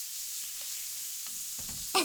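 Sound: stir-frying food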